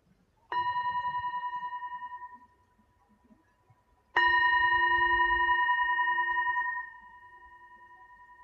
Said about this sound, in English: Deep gratitude as I end this practice by ringing a bell.